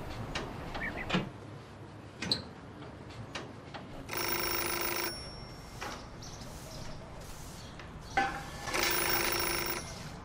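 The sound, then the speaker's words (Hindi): An old-style telephone bell rings in two loud, sustained bursts separated by a short pause, with a few scattered clicks and knocks earlier. “अगर मेरी माँ फोन उठाए तो लाइन काट देना, समझ गए ना?”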